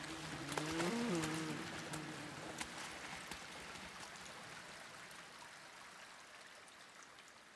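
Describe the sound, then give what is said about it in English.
A few irregular splashes of footsteps through shallow water in a tunnel ring out over steady running and trickling water, growing fainter as they recede into the depths of the tunnel. “But with both our voices hushed, and our breathing forced and frantic, I swear I heard the splashing of footsteps, disappearing into the depths of the tunnel ahead.”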